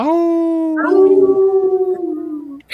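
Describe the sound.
People howl like wolves in a second attempt, two long sustained wavering howls overlapping, one steady and one joining partway, loud, trailing off near the end.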